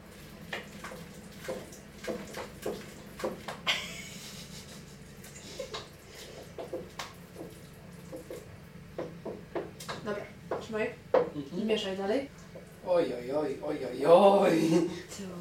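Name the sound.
stirring food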